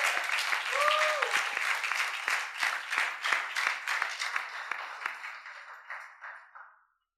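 An audience applauds steadily to welcome a speaker from Cameroon, a dense wash of many hands clapping that gradually thins and fades out over several seconds, with a brief whistle-like tone near the start.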